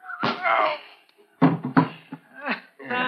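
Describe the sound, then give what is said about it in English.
A fistfight in which a man is punched and knocked out cold: several sharp, heavy thuds land in quick bursts, mixed with strained grunts and groans, then a final groan as the struggle ends. “Nice work, Slug. You knocked him cold.”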